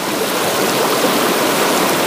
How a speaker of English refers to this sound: During a disaster, when floodwaters reach your door,